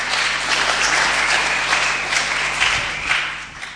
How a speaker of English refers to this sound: Good man. Give him a clap.